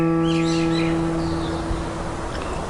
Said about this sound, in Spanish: gallo canta en la lejanía.